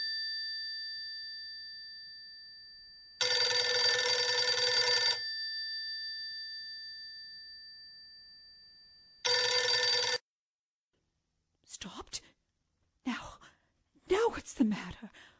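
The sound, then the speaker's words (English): An old-fashioned telephone bell rings loudly in two long bursts separated by a pause, followed by a person's soft sighs and breathy gasps. “Oh, let it ring. Let it go on ringing.”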